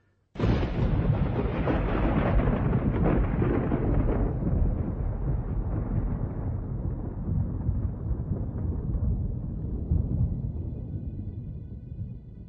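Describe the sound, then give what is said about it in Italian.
A loud crack of thunder bursts in abruptly, then rolls into a long, deep rumble that slowly fades over about twelve seconds, with no voices. “Il tuono cessò, ma la pioggia continuava a cadere e il paesaggio era avvolto in un'oscurità impenetrabile.”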